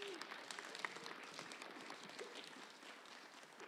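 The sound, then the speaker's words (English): A crowd applauds a speaker's more than seven years of sobriety, steadily for several seconds, a dense, even wash of many hands clapping with no single beat standing out, holding roughly level throughout. “Thank you. You can clap it.”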